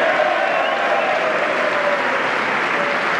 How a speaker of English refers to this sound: Now, this one gets a rousing applause from the Republicans because it's part of their fantasy life that somehow, if you sell health insurance across state lines, you're going to create more competition.